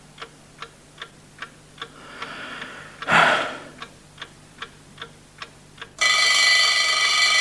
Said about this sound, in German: Na also. Es war gekommen. Es war der Wecker auf dem Nachttischchen. Auf ihn hatte ich gewartet. Das Weckwerk war, wie ich am Abend zuvor festgestellt hatte, auf 7:00 gestellt. Und Punkt 7:00 hatte der Wecker geschellt.